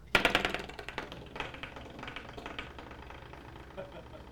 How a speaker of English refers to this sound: In that tile bathroom, they had one of those door stops. Now, I don't know about you, but this sound right here.